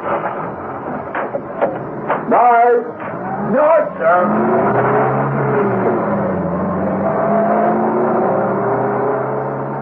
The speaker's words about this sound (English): Another car swung out of the car park, and the occupant waved to the guard.